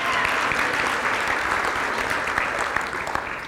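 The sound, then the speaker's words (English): An audience at a church baptism service applauds steadily for those baptized and the assistants, a dense wash of clapping that holds loud for a few seconds, then starts to thin and soften toward the end. “Can we give a round of applause for these awesome assistants as well?”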